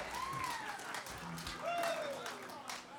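A live show audience applauds a performer after his last piece, a dense, steady wash of clapping filling the whole stretch, with a couple of rising and falling whistles or cheers riding over it.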